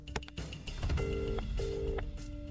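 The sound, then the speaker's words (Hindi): A phone is dialed with a few quick key tones, followed by two ringing bursts of the line tone over a low background hum; the call to Digambar Sahab goes unanswered. “ओहो, दिगंबर साहब भी फोन नहीं उठा रहे हैं। इसकी जान चली जाएगी, हम इंतजार नहीं कर सकते।”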